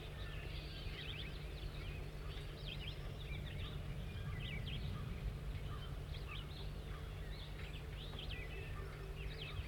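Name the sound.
bird song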